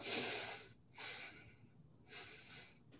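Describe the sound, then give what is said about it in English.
Three slow, deep abdominal breaths, each a long airy rush separated by brief pauses, with no talking. “Correct breathing is abdominal breathing.”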